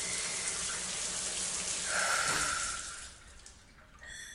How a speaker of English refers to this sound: Can you turn the shower off? Starting to feel a bit lightheaded.